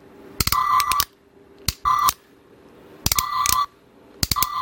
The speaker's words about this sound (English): That's an actual tactile clicking. There you go.